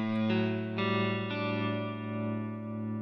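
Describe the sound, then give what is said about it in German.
An electric instrument played through delay and reverb effects plays a few sustained, harmonically rich notes that ring out and blend into a washy, echoing tail, with the effects smearing each new note into the last. No one speaks. “Also auf alle Fälle Delay Reverb mit dabei. Also Raum und Echo.”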